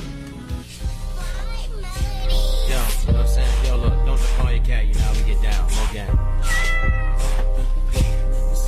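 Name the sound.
cat meowing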